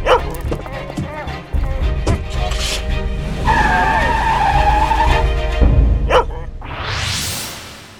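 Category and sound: vehicle, car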